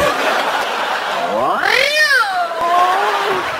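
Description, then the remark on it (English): A single drawn-out meow, done by a human voice imitating a cat, swoops up in pitch and then slides slowly down. It is fairly loud over a steady background hiss. “Probably because I make a hot cat woman.”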